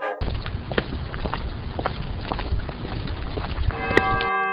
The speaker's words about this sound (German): Ich höre Glocken. Das ist eine Kirche.